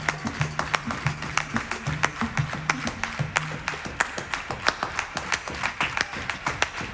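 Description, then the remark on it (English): A crowd claps in a quick, steady double-time rhythm, sharp hand claps repeating rapidly over a low humming tone and faint background voices. “I want you guys to clap your hands, but I want you to do it double time.”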